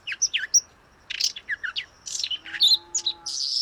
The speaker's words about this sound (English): And the young bird just kind of sounds a little bit like a jazz musician, kind of just, you know, rambling along, kind of no clear riffs at all, just kind of improvising.